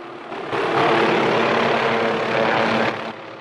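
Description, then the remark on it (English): A yellow helicopter comes in to land at the foot of the Misty Mountain Range, guided by waved flares, its engine roaring in a loud, steady wash of noise with a low droning hum as the rotor blades spin, swelling in and then cutting off abruptly. “As it touches down, the rotor blades whisk the smoke into a fleeting whirlwind.”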